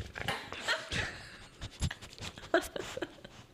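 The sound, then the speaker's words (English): A dog pants and snuffles right up close to the microphone, quick breathy bursts with small whimpery sounds in between, fairly loud and intimate. “The dog into the fucking microphone.”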